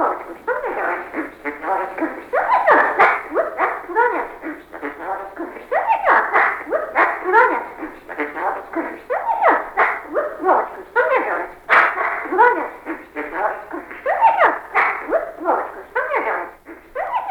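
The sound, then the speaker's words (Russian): A magpie named Petka, a mimicking bird kept in a cage at an ornithologist's, mimics a dog, producing a steady stream of quick barks, yips and whining yelps that run on without pause for the whole stretch, fairly loud. “Сорока Петька.”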